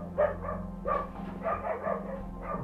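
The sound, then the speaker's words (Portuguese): Dogs bark in a loose series of about five short, harmonic barks, with a steady low electrical hum running underneath throughout. “Os cachorros começaram a latir.”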